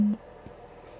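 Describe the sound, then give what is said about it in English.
A Bluetooth speaker gives one short, low-pitched electronic beep at the start, a steady tone that cuts off abruptly and leaves faint background hiss. “Now, I do not approve of hitting USB... No, yes, Bluetooth speakers. But when they keep beeping at you, do not beep at me!”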